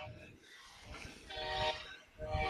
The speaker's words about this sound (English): That'll be our fourth train of the day. Fourth train of the game and sixth of the day.